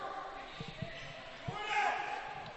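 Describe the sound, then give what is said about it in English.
A basketball thuds a few times on a hardwood gym floor as the ball is knocked loose early in the second half of a game with Durham Academy, irregular bounces over a steady background of crowd noise and indistinct voices. “Ball's knocked loose.”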